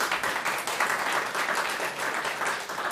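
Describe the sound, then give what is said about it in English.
An audience applauds steadily to vote on whether New York City is a less beautiful place than it was 20 years ago, a dense wash of many hands clapping at once with no pauses, holding a fairly even loudness throughout. No voices stand out. “Applauded, too.”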